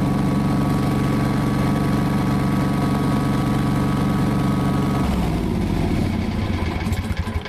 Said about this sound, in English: And so I took my little digital recorder with me on my mower. and here's the result. Oh, here we go.